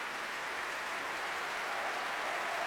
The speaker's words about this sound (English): He turns to face the audience and take this huge applause. It's something he hasn't done for the whole series so far.